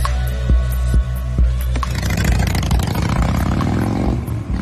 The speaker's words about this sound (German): An was denken wir, wenn wir diesen Sound hören? Motorradfahren? Die große Freiheit?